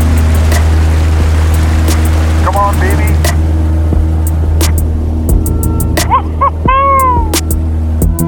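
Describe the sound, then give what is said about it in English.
A floatplane's engine roars at full power as it takes off from a lake and leaves the water, a loud, steady drone throughout, with spray-like hiss on top and a man briefly speaking over it. “The plane's pontoons just seem to clear the tall firs and cedars at the end of the lake.”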